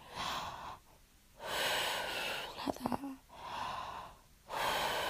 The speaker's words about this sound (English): Feel my cool breath on the nape of your neck. Does that feel nice? Just keep breathing in and out.